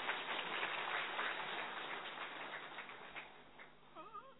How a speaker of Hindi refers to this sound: इसके लिए जोर से ताली बजाओ।